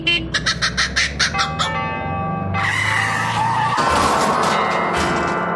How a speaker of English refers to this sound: That's a kookaburra in a Hillman Minx colliding with a set of tubular bells.